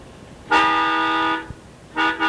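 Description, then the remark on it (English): A loud, brassy trumpet blast, played as the "fifth trumpet of truth" on a religious program, holds one steady note for about a second, then two quick short toots follow after a brief pause. No one speaks. “So may we hear the fifth trumpet of truth, please.”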